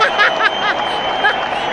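A canned applause track: a steady, dense wash of clapping mixed with crowd cheers and a few high whoops, holding an even loudness for under two seconds.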